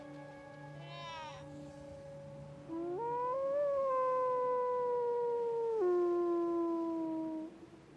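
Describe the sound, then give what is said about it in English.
A wolf lets out a long, loud howl calling to its pack. The howl rises, holds steady, then drops and fades, with fainter howling tones overlapping at the start. “So using the analogy of the wolf, he's crying out, come and get it, to his friends because of the youngling who was left behind.”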